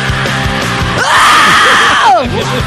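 A loud rock song bursts in with a sustained, raw screamed vocal held for about a second over driving guitars and drums, then the scream breaks off as the band keeps playing.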